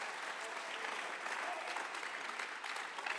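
audience clapping hands

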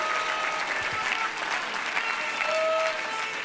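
audience clapping hands

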